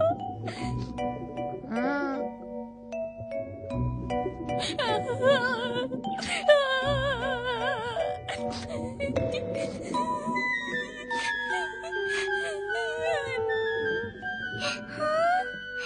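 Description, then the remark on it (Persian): A voice acts out loud, exaggerated crying and wailing for Mrs. Turtle, a turtle character, with rising and falling sobbing moans repeated over a steady musical backing for the whole stretch. “ای وای چی شده خانم لاک پشته، چرا داری گریه میکنی؟”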